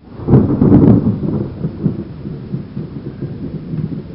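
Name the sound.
thunderstorm with pouring rain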